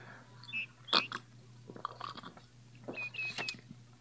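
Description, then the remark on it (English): Someone drinks water from a pitcher: a few wet slurps and gulping swallows come in irregular bursts over a faint, steady low hum, with no talking. “Let me drink of thy pitcher, I pray thee.”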